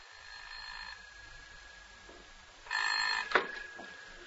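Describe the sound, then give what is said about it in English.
A telephone rings with a short electronic burst of bright, tonal trilling, followed by a click as if the receiver is picked up. “I was just dozing off when the telephone rang.”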